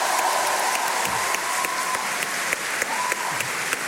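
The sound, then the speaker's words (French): A crowd claps steadily throughout, a dense, continuous patter of many hands at a fairly loud, even level, with no voices standing out above it. “Alors, on peut l'applaudir quand même. Bravo, bravo.”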